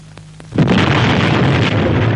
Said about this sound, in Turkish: Patladı! Hangi hayvan attı bu bombayı?